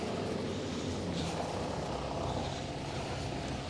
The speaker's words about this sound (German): So, jetzt müssen wir aufpassen. Jetzt kommt ein LKW.